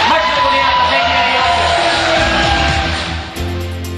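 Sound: audience applause and cheering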